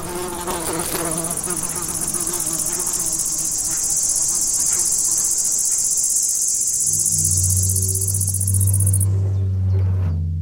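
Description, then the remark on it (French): A dense chorus of cicadas sings in a loud, steady, high-pitched buzz that stops abruptly near the end, while a low droning hum swells underneath in the final seconds. No one speaks. “au pied d'un arbre où il y avait plein de cigales”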